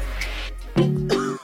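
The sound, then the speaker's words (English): A couple of rough, throaty coughs from a person who cannot sleep at night with a cold, each a short voiced burst, following a moment of low background hum, with a brief final catch at the end. “Sorry, I can't sleep with this cough.”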